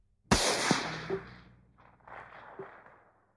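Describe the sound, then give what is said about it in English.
A single loud gunshot, fired from a gun during the night, cracks out sharply, followed by a long echoing tail and a fainter rumbling reverberation that fades away over a few seconds. No one speaks. “During the night, the people in the next house heard a gunshot.”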